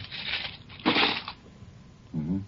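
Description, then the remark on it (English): A pair of cheap dice, one of them loaded, rattle and clatter as they are rolled out on a table in two bursts of hard, scraping noise, one die splitting in two, then quiet, followed by a brief voiced murmur at the end. “Now, you roll them out on the table like this.”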